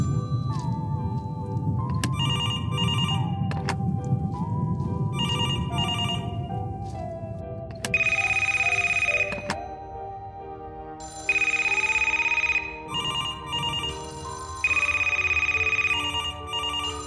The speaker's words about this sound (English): Ooh, I hear ringing. Of course. It's an old phone shop.